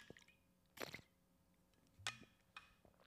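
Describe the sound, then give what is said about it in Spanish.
Quiet gulps and wet swallowing sounds of someone drinking water, a few soft liquid squishes spread over a few seconds, with no talking. “Voy a tomar un break de agua.”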